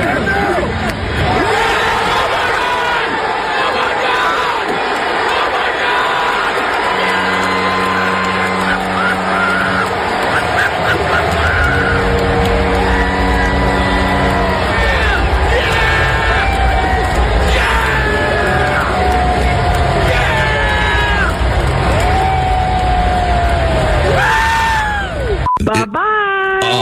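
crowd, baseball crowd cheering

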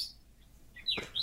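bird, birds chirping

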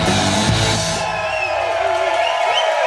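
crowd, crowd cheering and whooping

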